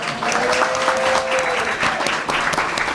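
A group claps steadily for a few seconds, a dense, even patter of many hands with a faint tonal whistle-like line running through the first half.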